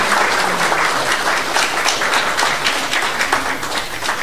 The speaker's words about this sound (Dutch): Dank u wel. Dit is een applaus waard, want dit is toch bijzonder.